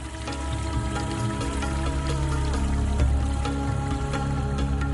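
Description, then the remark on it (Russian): River water splashes and sloshes steadily for several seconds as a woman comes to bathe in the river, with scattered sharper splashes, beneath a soft sustained musical background. No voices are heard. “Она пришла покупаться в реке.”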